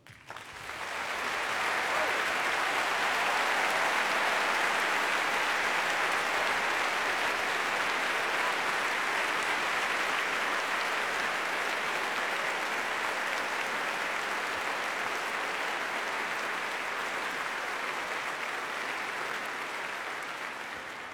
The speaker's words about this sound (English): Let's have a special round of applause for the composer of the music for A Matter of Loaf and Death, who's here today, Julian Knott.